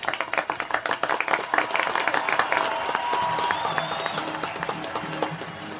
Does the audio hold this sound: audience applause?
yes